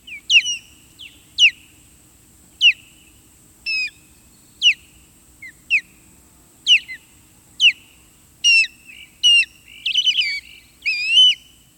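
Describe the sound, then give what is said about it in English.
Bright, chirpy calls of migrant birds returning in late winter repeat at a steady pace, a dozen or so sharp high notes that grow busier and more warbled toward the end, clear against a quiet background. “As more and more return in the coming weeks, their oddly chirpy calls will fill the air once again.”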